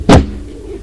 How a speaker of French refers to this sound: La porte du salon qui s'ouvre.